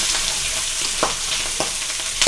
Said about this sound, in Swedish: Är det här smaker det kokta fläsket stekt? Jajamän, det är det. Ja, ni hör ju hur det fräser på här.